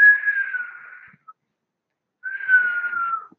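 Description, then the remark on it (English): A person whistles two breathy, slightly falling tones separated by a short pause, each about a second long, thin and airy rather than clear, with no talking. “Yes, I can whistle. Oh my God, that's a weak whistle, right?”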